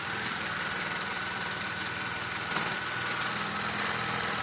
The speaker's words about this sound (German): Im Hinterzimmer von Moden Wilke in Leberose am Markt schnurrt die Nähmaschine.